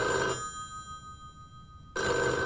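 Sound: telephone ringing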